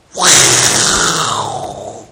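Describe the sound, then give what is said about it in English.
A person lets out one long, loud, raspy roar in imitation of a lion. It starts abruptly, holds strong for about two seconds with a rough, breathy edge, then slowly fades. “You know, does it sound like a lion?”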